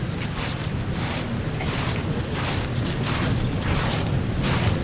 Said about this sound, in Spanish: El racheo de los costaleros